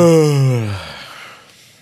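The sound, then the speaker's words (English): A loud, drawn-out yawn: a strong voiced tone that slides downward in pitch, then trails off into a breathy exhale that fades over about a second. “… yawns loudly.”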